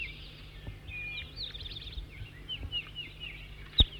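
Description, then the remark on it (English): A bird sings a steady series of high, quick chirps and warbles, fairly faint against a low background hum, with a sharp click near the end and no voices. “New bird before was loud.”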